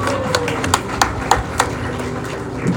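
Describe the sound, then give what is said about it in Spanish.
Congregation applause at a church service, given to the Lord as people sit down: a steady wash of many hands clapping with a handful of sharper, louder claps popping out at irregular moments over a few seconds. “Y amén, puede sentarse con un fuerte aplauso al Señor.”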